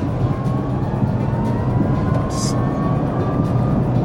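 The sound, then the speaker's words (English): Steady, dense low rumble of road and engine noise inside a moving inexpensive, entry-level car, with a faint rising whine as it picks up speed and a brief hiss partway through; no one speaks. “Only gripe is this noise. It's a little noisy, yeah. Especially when you pick up speed, like this.”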